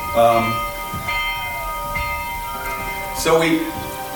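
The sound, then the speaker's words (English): A bell rings out repeatedly for lunchtime, struck about once a second with a bright, sustained metallic tone that lingers between strikes, fairly loud over a low background hum. “What's going on? Who's bell? I guess it's lunchtime.”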